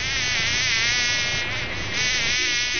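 A fly buzzes steadily, a continuous droning hum with a slight wavering pitch that dips briefly in the middle before resuming, no voices present.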